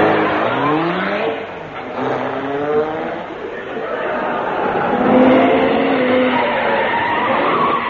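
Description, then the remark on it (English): A car engine turns over and revs up in several rising, whining surges, loud, with the pitch climbing each time the throttle is pressed. “This car runs on water.”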